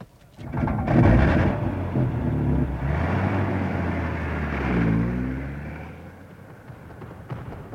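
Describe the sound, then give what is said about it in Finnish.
A car engine revs and pulls away, its rumbling growl rising then gradually fading, with no voices present. “Minä ja Pekka ajamme jäljessä.”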